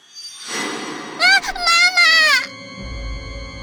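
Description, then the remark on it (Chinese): A child's high, wavering scream rises sharply, breaks briefly, then surges again in a long terrified wail before cutting off, leaving a low rumble underneath. “另一个声音尖叫起来，不一会儿，所有孩子都发出恐惧的尖叫，大家都想逃出这里。”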